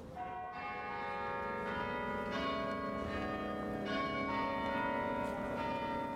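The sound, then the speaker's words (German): The midday carillon at Würzburg's market square rings out the melody of the Marian hymn O himmlische Frau Königin, each struck note blooming with long overlapping resonance, steady and fairly loud against a faint outdoor hum, with no voices present. “Und das Glockenspiel am Mittag schlägt die Melodie zum wohl beliebtesten Marienlied Frankens: O himmlische Frau Königin.”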